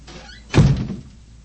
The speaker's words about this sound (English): Please close the door. Yes, sir.